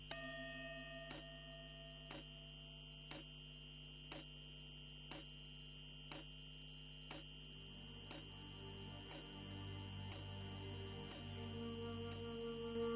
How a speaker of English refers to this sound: The tick-tock of the clock shows clearly the passage of my life.